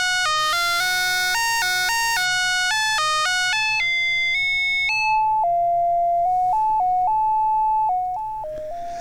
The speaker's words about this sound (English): But I kind of love this tuneless whistling, this sort of, it's not tuneless, it's just undirected. Yeah, it's random, but it's still melodic, right? It's not so random that we can't figure out what's going on.